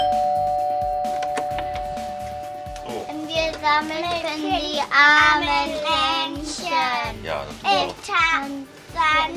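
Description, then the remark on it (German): A doorbell rings near the start, its steady chime tone lingering for a few seconds before a group of child carol singers (Sternsinger) at the door begins singing loudly while collecting donations. “Klingeln, singen und Spenden sammeln. Die kleinen Sternsinger geben an jeder Tür ihr Bestes für die Kinder von Tansania.”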